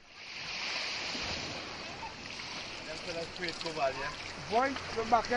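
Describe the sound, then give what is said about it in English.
Harbor ambience as fishing boats return at night to a state-owned cooperative in Trinidad, laden with grouper and kingfish: a steady wash of waves and wind, a faint low motor hum, and people calling to each other over the water toward the end. “As they have every night for decades, the fishing boats return to the state-owned cooperative, filled with karit, grouper and kingfish.”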